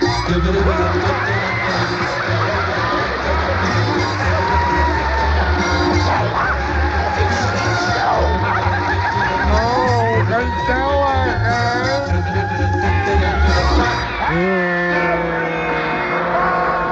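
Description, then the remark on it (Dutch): A packed audience roars with loud, continuous crowd noise, a dense mix of cheering, whooping and shouting voices that stays steady throughout, with individual yells rising above the din. “U hoort het wel, hè? We zitten weer boordevol.”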